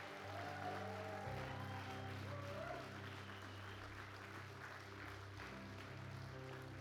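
A crowd claps for the Lord and for a speaker after a closing prayer, a dense, even wash of applause that holds at the same loudness throughout, with sustained musical tones humming underneath.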